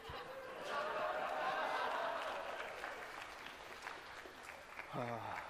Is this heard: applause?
yes